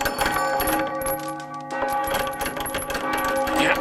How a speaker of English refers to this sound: But soon it rang out loudly, and then did every other bell and chime in the house.